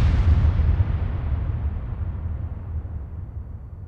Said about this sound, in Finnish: Yksi näistä rakennuksista oli ammusvarasto, joka räjähti vuonna 1919, eli tarkalleen 100 vuotta sitten.